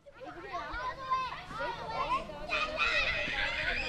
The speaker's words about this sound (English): You guys be careful, I think that's a little too fast. The family is playing in a park in the East Bay town of Pleasanton on a sunny afternoon.